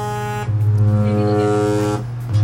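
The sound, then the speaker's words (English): A Roland keyboard synthesizer holds a loud, buzzy low tone rich in overtones as a band tunes up, with no talking. The note shifts slightly in timbre twice, once early on and again near the end. “That, ladies and gentlemen, is a Roland keyboard.”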